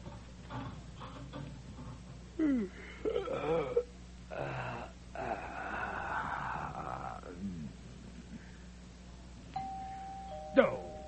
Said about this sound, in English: Oh, I knew it. Doorbell's ringing!